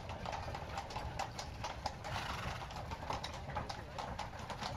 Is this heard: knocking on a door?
no